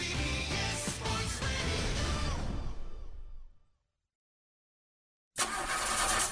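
A car engine cranks loudly with a rough, pulsing churn, failing to start, then winds down and dies out into silence before the cranking starts up again, with no voices.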